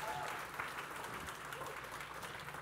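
Sustained audience applause, a dense steady patter of many hands clapping at an even, fairly loud level throughout, with no pauses or distinct voices standing out.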